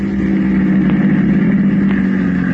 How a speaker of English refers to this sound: Their taxi is just pulling up in front of the door. This is it, Tucumbo Cafe.